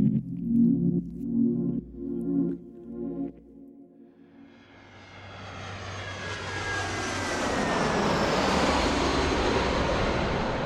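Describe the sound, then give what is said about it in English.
A low droning hum gives way to the engine roar of a plane flying to Thailand, swelling and holding steady and loud, with a thin high whine running through the rushing noise. “So before Jakob can meet with the buyers, Amaryllis gets on a plane for Thailand to intercept him.”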